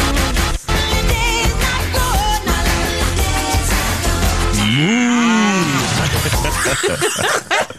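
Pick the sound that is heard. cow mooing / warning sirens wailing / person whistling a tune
cow mooing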